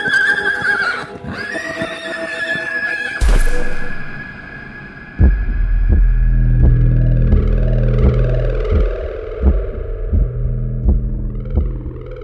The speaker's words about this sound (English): Al relinchar el caballo, pues me tiró. No alcancé a... That's when my horse neighs and bucks me off, and I fall into the sand.